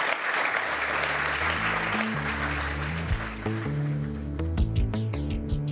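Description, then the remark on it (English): An audience breaks into steady, dense applause, loud and sustained, for the panelists at the end of a lightning round in a Climate One conversation, while a bass-heavy musical tune enters underneath and gradually takes over as the clapping fades. “Let's give them a round for getting through the gauntlet.”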